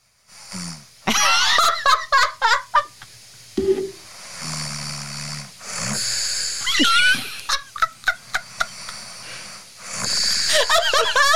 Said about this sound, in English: We've like slept together loads of times, and I can't say I've ever noticed you snore. Well, apparently I do. listen to this.